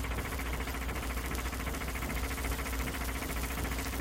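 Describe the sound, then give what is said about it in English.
Fibber and Molly's old car chugs along Highway 79 past a house with a palmistry sign in the window; its engine runs steadily for four seconds, a continuous low rumble with a fast, even knocking pulse and a rattling, noisy top, with no voices. “Back to Highway 79, where Fibber and Molly are cheerfully chugging past a house with a sign in the window.”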